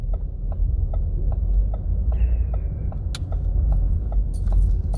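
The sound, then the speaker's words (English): Inside a car in heavy traffic on a Friday: a steady low engine and road rumble, with a turn signal clicking evenly throughout and a brief metallic jingle near the end. No one speaks. “I have never seen traffic like this.”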